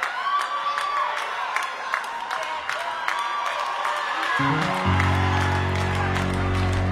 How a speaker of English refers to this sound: So good, that part. Let's clap.